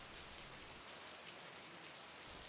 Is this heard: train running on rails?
no